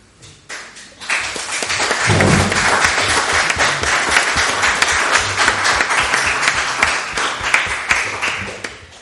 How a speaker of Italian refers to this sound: Bene, questo applauso vale per i relatori, vale anche per tutti noi che siamo stati presenti a questa tavola rotonda.